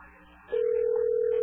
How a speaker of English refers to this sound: We'll hear a beep.